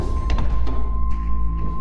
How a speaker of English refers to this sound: You reach the heavy steel door and check your watch. 5:54 a.m. It's time. The moment your watch hits 5:55, you hear the heavy locking mechanisms disengage.